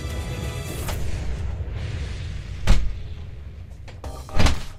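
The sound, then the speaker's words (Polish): A studio door opens and shuts as someone arrives, with two dull, knocking thuds a couple of seconds apart over a low rumbling noise, with no voices. “Słyszeliście drzwi studia, trochę za wcześnie przyszedłeś.”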